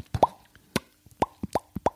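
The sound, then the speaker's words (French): A voice imitates a fish with a series of wet mouth pops, about five short, hollow plops in an uneven rhythm, each with a brief tonal ring, with no talking. “Le poisson.”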